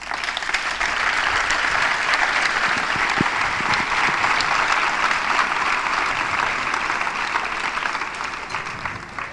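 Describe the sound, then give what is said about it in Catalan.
Sustained applause from an audience fills the whole stretch, a dense steady patter of many hands clapping with no voices standing out, as the audience applauds the artist who made a work on show. “que el podem aplaudir perquè està molt bé.”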